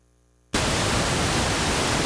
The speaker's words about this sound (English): And now, if I try and talk over the white noise, behind me, it makes it a lot harder to hear what I have to say than if the room was otherwise quiet.